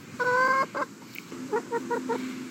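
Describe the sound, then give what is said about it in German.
Chickens on a small family chicken farm in a garden clucking: a loud, drawn-out squawking call, then a run of short, rhythmic clucks at lower volume, with no voices. “Unser Sohn hat vor vielen Jahren damit angefangen und die ersten Hühner quasi ins Haus geschleppt und hat ja so eine kleine Hühnerfarm bei uns im Garten eröffnet.”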